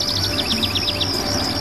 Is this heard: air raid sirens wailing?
no